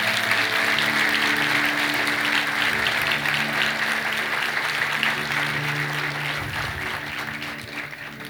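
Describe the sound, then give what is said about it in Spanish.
A church audience applauds God loudly and steadily, a dense wash of clapping with a low musical drone underneath, gradually easing off toward the end. “Si crees eso, dale un aplauso fuerte a Dios.”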